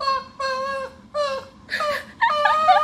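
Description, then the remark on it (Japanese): A person imitates a dog whimpering, begging in 'dog language' as asked, in about five drawn-out, high, whiny cries with short pauses between them. Fairly loud, with no talking. “じゃあちゃんとお願いしてごらん、犬で、犬語で、はい。”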